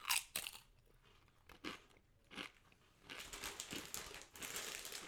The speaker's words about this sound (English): I really like them, and what I especially like about them is also the crunch. Because yes. I didn't expect this good crunch. They're very snappy. Yes. It's very nice. The crisp is thin. Yeah. But it still has a good crunch.